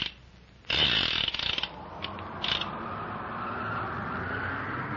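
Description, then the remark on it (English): A car engine roars to life with a harsh, rattling rev burst, then settles into a steady, loud mechanical drone as the car pulls away, rushing to the foot of a volcano. No voices. “Swiftly as a bird, the car rushes to the foot of the volcano.”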